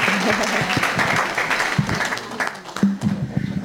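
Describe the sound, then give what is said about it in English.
A crowd claps steadily with dense, continuous applause, with a few voices cheering and calling out through it, loud and sustained from start to finish, applauding children, youth and teachers after they shared. “You guys can get to cheer.”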